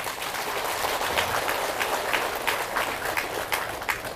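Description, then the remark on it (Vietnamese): A crowd breaks into loud, sustained applause, dense overlapping claps forming a steady wash of sound throughout with no voices standing out. “hãy dâng cho một tràng vỗ tay thật lớn nè.”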